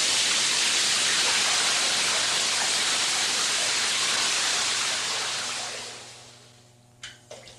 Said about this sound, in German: Was machen Sie da? Ich lasse etwas kühleres Wasser ein. Das ist sehr aufmerksam, aber ich hätte doch gern noch eine Kleinigkeit von dem Heißen.